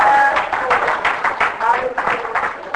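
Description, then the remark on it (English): A church audience claps together for the Lord in a dense, steady burst of applause lasting a few seconds, with voices calling out over the clapping. “If you believe that, you can give the Lord a clap for it.”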